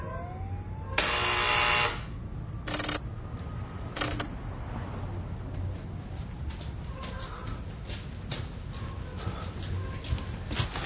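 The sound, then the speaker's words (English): A loud, harsh electronic buzz from a sale notification buzzer sounds for about a second, signalling a $9.99 sale at 4:15 in the morning, followed by two shorter buzzes a moment apart, all over a steady low background hum with faint scattered clicks. “So 3 or 4 days go by. Not a single buzzer.”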